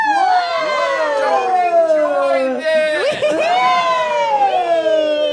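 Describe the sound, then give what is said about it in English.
Voices imitate a police siren, holding a loud, steady wailing tone that slides slowly up and down for several seconds, with a brief wobble midway. “Whoa, the police.”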